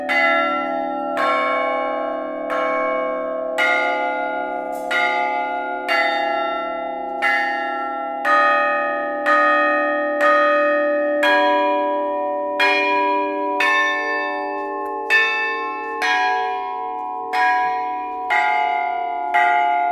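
Large bells hanging in a bell foundry workshop, made by Antonio Degli Quadri and his ancestors, are rung by him before his lunch break, in a steady, regular sequence, about one strike every second, their rich tones overlapping and humming on between strikes. No voices, just the loud, resonant pealing.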